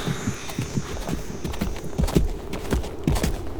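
The hooves of a horse carrying panniers clip-clop in a steady, even walking rhythm, moderately loud, with a faint high whine in the background for the first couple of seconds.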